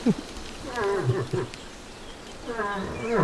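moose call

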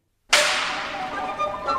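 whip crack

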